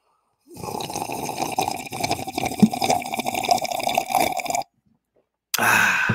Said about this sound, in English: I'm going to give you a slurp for that one.